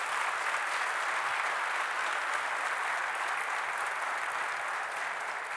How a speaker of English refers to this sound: to our esteemed praise and worship team and musicians. Let's give them another hand clap of praise.